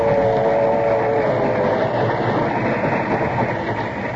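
A train runs steadily, a loud continuous rumble and rattle of wheels on track, with a faint tonal whine in the first second and no voices.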